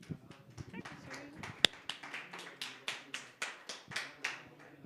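Audience applause: scattered clapping that settles into a steady, rhythmic run of sharp claps at a moderate volume, lasting a few seconds.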